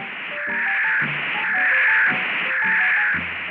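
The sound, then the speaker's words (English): Static from a radio tracking receiver used to triangulate a fox in the dark hisses and crackles, swelling from a quieter start into a loud, steady roar with faint tonal warbles running through the noise; no voices. “Then the static came to a roar.”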